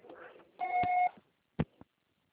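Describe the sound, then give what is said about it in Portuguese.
A single steady electronic telephone voicemail beep, the signal to start recording a message, lasting about half a second, preceded by a faint muffled murmur and followed by two sharp clicks. “Após o sinal, grave sua mensagem.”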